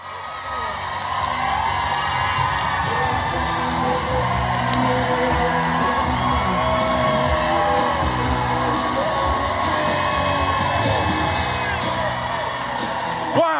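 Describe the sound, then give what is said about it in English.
A small crowd cheers, whoops and yells without pause as a man gets off a bus, apparently in New York, overlapping voices holding a steady, fairly loud level for the whole stretch. “apparently getting off the bus in New York to a very small crowd.”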